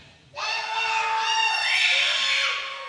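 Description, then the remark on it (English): A crowd of voices bursts into a loud, sustained yell together, voting by making noise, rising abruptly and holding for a couple of seconds before starting to fade. “2, 3, and if you want me to be applesauce, then you're gonna yell, okay?”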